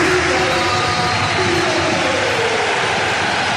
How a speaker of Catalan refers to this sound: Doncs queda molt clar, la gent del Palau està amb Nikola Mirotić dempeus. Em pregunto jo què deu sentir. Mira, Mirotić que aplaudeix a la graderia del Palau Blaugrana. Aplaudiments.